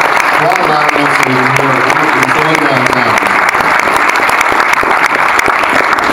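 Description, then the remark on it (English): A roomful of people applauds steadily for graphic novel creator Dean Motter, a dense, even patter of clapping that holds for several seconds, with a voice briefly carrying over it at the start. “Give him a round of applause anyway.”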